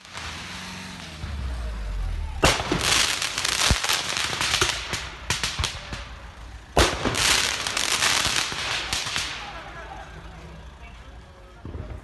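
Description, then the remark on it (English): Rapid volleys of fireworks crackle and pop in loud, dense bursts, with pauses between salvos, over low traffic rumble and faint voices, as fireworks are shot at first responders in Sweden. “They're shooting fireworks on first responders and all that kind of stuff, right?”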